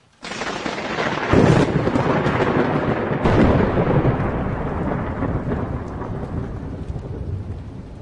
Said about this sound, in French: Un éclat aigu d'une tardive lumière, suivi du bruit assourdissant d'un écrasement, déchira le déluge du ciel.